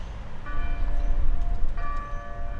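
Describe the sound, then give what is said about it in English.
Church bells in the medieval Spanish towers of the Most Holy Rosary Cathedral, mother church of the Catholic Diocese of Toledo, ring out in two distinct strikes about a second apart, each leaving long, humming overtones that hang over a dense background rumble of traffic or crowd noise. “Those bells are in the medieval Spanish towers of the Most Holy Rosary Cathedral.”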